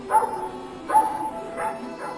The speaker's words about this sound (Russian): Залаяла собака.